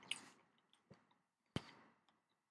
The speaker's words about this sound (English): You took, like, a huge handful of sunflower seeds. I know. You asked me when I was mid-chew.